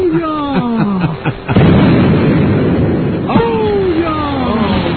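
A falling whistle ends in a loud, rumbling explosion, followed by a second blast with more descending whistling tones, like a staged bomb sound effect, booming.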